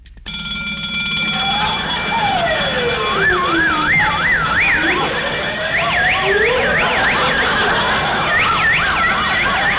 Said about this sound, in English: I forgot to turn off the alarm.